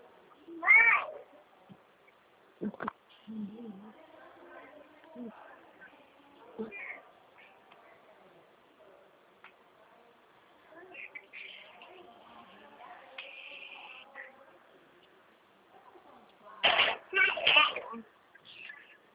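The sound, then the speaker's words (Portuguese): A baby vocalizes, with a short high-pitched squeal near the start and a louder burst of cries toward the end, separated by quieter babbling and faint murmuring; the baby is one of the grandchildren a woman is looking after. “O bebê é seu filho aí”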